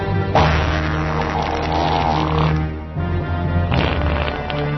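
Loud, buzzy fart noises play the first movement of Beethoven's Fifth Symphony as a string of sustained, low, rasping notes broken by short pauses, with no talking.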